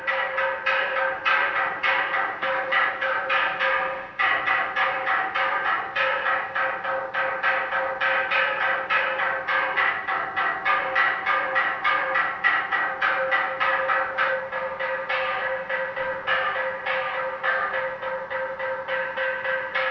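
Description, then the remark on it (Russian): A wooden semantron (bilo) from Mount Athos is beaten in a fast, steady stream of hollow knocks on a single wooden board, the pitch shifting as different spots are struck. It plays alone for the whole stretch, loud and unbroken, with no voices. “Он бьет по одной деревяшке, просто в разных местах.”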